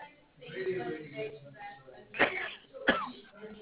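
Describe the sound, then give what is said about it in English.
Two sharp, explosive sneezes burst out less than a second apart, louder than the murmur of voices and background talk running underneath. “I'm sorry. God bless you.”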